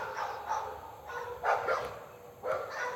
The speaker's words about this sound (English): Cue the dogs. So plenty of dogs. No turkey. Where's the gobble?